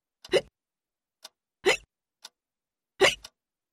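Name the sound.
hiccups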